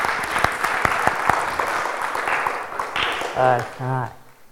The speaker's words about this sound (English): Well done, guys. That's brilliant. Round of applause for many of us.